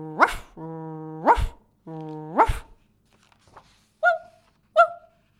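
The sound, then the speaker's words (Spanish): A dog barks three times with drawn-out, howling tails, then a higher-pitched small black-and-white spotted dog answers with two short yaps; clear, with no talking. “Incluso ladraba como un perro azul.”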